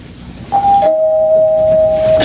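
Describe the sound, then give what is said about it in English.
A doorbell chimes with two tones: a short higher note followed by a lower note that rings out steadily and loud for well over a second, with no one speaking. “would you please answer that door?”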